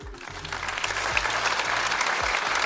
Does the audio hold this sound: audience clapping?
yes